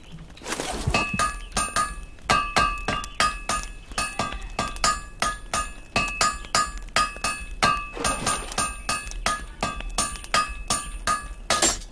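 A hammer strikes metal over and over in a quick, steady rhythm. Each blow rings out bright and clanging, fairly loud, and no one speaks.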